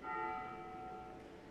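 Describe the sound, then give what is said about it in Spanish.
A single bell strike rings out with a bright, sustained metallic tone that hums steadily and fades slightly over a second and a half. No one speaks. “Nos salvó la campana otra vez.”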